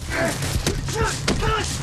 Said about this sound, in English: They box and kick.